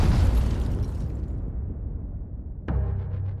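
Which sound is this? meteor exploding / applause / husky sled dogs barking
meteor exploding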